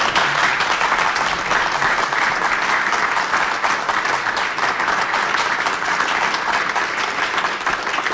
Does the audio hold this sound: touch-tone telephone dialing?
no